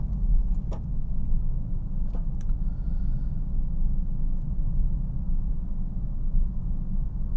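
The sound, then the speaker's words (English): A car drives steadily along a road on a frosty day, following a big van around a corner, its deep engine and tyre rumble at a constant level, with a few faint clicks and rattles overhead and no one speaking. “Yeah, so I was saying, it's nice with this car because it has so much power and it's so maneuverable that if you want to get yourself into that little hole, that spot, that place between those two cars, you merely need to think about it.”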